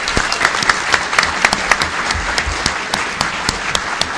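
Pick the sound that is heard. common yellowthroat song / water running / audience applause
audience applause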